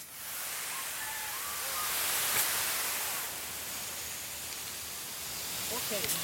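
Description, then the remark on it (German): A steady, loud rushing hiss of water spraying under pressure from a hydrant hose, released by pushing a lever, fills the whole clip, broad and continuous, with faint chirps and brief voice-like sounds in the background. “Ich drück da oben den Hebel um und dann spritzt es Wasser.”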